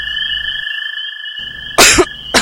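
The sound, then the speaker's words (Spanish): Two sharp, loud coughs, the second cut short, ring out over a steady high-pitched electronic whine and faint background hum, with no one speaking. “Esta tos no la soporto.”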